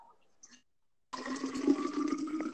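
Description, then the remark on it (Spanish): Water for mate is poured from a kettle into a thermos: after a brief quiet, a steady gurgling stream starts and runs on, its ringing tone hinting at the vessel filling up. “Estoy me imagino que pasando el agua de la pava al termo.”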